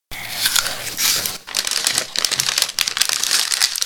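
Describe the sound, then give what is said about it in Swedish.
Crisp, dense crinkling and rustling of a paper bag, used at school for fruit peels sorted as compost, being crumpled, fairly loud, with a brief pause before the irregular crackling resumes and continues to the end. “När vi har ätit vår frukt så lägger vi fruktskapet i en papperspåse och sorterar det som kompost.”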